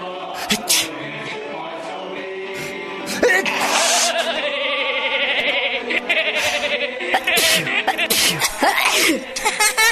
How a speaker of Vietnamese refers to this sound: Đến người thứ ba, rồi cả hàng thứ nhất cũng hắt hơi như pháo liên thanh, thì hết nín cười được.